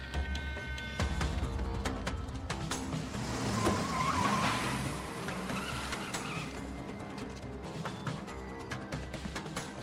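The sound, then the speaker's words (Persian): Car tires screech as a vehicle skids to a halt, the squeal swelling midway over a steady rumble of engine and road noise, fairly loud. “بهت میگم اون ماشین لعنتی رو نگه دار.”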